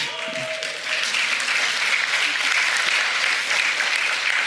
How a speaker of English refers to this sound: And when you raise your hands and when you start clapping, all right? Okay, that's not weird. If you want to start clapping during worship, just do it